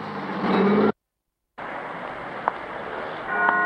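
vehicle, car driving away

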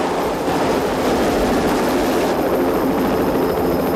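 vehicle, helicopter rotor overhead

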